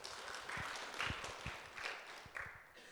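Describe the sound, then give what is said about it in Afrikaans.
Hands clapping together in a steady, dense patter, like a small group applauding, soft and continuous for a few seconds with no one speaking. “Hande klap.”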